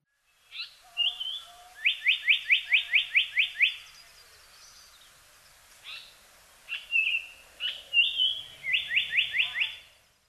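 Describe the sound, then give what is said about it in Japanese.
A brown-eared bulbul calls loudly: harsh squealing notes lead into two quick bursts of about eight sharp, repeated chirps, separated by a few seconds of scattered calls. “ヒヨドリです。”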